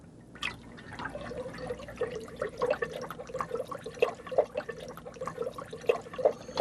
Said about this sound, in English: And simply take regular sparkles and dump them in a water tank. And then stir it up, and then start filming it after you've stirred it up.